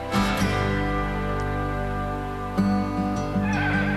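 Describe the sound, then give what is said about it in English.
A horse whinnies loudly, a long, shrill, quavering neigh that breaks out again partway through, with no voices over it. “His horse has been freaking out today.”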